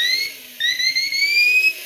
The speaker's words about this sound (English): Then you've got an Acme whistle here.